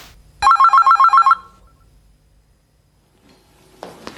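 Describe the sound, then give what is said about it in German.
A telephone rings loudly in a quick, rapid burst of bell trills lasting under a second, then stops, leaving near silence before faint rustling at the end. “Du machst kurz, meine Freundin braucht das Telefon.”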